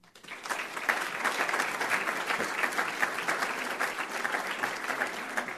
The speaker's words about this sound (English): I stand up here and you clap and it feels really good.